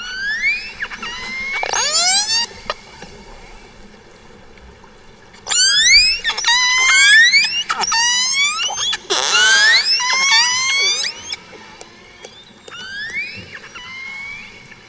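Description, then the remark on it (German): A pod of orcas calls underwater while hunting herring in Norway as a group, using the coordinated carousel feeding method, with rapid overlapping whistles and squealing calls sweeping up and down in pitch, bursts of loud activity separated by brief quieter pauses. “Ja, das ist eine Gruppe von Orcas, auch Schwertwale genannt. Und die jagen in Norwegen den Hering.”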